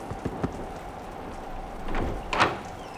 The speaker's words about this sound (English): Knock on the door.